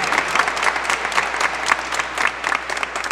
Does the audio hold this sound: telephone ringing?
no